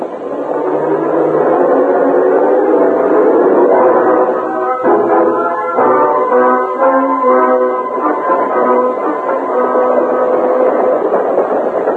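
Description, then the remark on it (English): A train rumbles along loud for the whole stretch, a dense steady roar with metallic whining tones threaded through, as it runs and then slows down to stop to take on water at a tank. No voices. “A short time later, as the train lessened its speed, the guard in the express car spoke to the Lone Ranger.”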